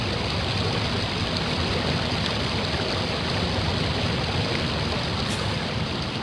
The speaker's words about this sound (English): If I'm right, let the river prove it. And at that moment, they heard the rushing of the water.